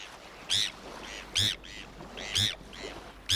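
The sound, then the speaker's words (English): Bonaparte's gull calls: harsh, nasal, buzzy notes repeated about once a second. Four loud calls alternate with softer ones over a low, steady background hiss. “This is one gull you're never going to see in a garbage dump. Bonapartes find food in several ways, but not by picking through trash.”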